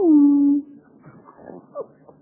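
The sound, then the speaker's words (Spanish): A single drawn-out, high whine that slides down in pitch and holds, a dog whimpering heard over the phone, followed by faint, scattered murmuring sounds in the background. “¿Conoces esta voz? Está llorando. Es tu perro.”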